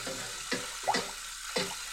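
Water runs steadily into a sink while dishes are washed, with a few splashes and clattering knocks at irregular moments over the constant hiss of the flow.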